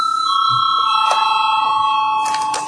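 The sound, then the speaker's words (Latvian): A parliament chamber bell rings before a vote on amendments to the veterinary medicine law, a loud, steady electric tone with a high sustained pitch and bright overtones, sounding alone for nearly three seconds with a faint murmur of the room behind. “Lūdzu zvanu.”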